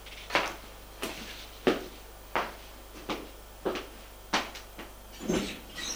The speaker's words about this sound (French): Il ferme la porte.